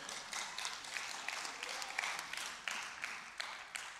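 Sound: audience clapping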